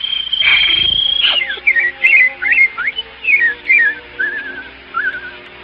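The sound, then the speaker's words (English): A person whistles a lively birdsong imitation, a series of quick rising and falling chirps and trills repeated in short bursts, fairly loud, with no talking. “While the birds make music all the day. Birds, Daddy, birds.”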